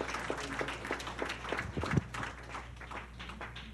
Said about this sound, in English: Somebody clap for the Lord. Hallelujah.